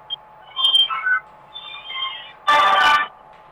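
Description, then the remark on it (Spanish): A telephone rings with a melodic electronic ringtone: two short phrases of warbling high tones, followed by a louder, harsh buzzing burst. No one speaks. “justo me estaba interrumpiendo el teléfono.”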